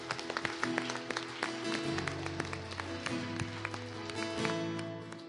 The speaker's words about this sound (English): You prayed that prayer today, amen, and we say, welcome to the family of God. Give him a hand clap, yeah.